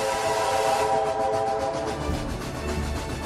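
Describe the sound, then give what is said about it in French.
A steam locomotive whistle, announcing the arrival of the bandit Frank Miller on the noon train, blows in one long, loud, sustained tone, its harmonics steady over the rumble of the train, with a rhythmic chuffing pulse underneath. “Son arrivée sera annoncée par le sifflet de la locomotive.”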